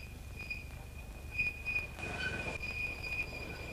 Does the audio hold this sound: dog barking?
no